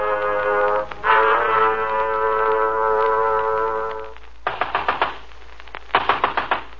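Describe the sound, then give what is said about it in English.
A long, steady droning tone gives way to two loud bursts of rapid pounding on a door, each about five heavy blows in quick succession, separated by a brief pause. “Okay, I'm coming. Open up, open up. Hello, come on, open up. Next time, why not bring along an axe?”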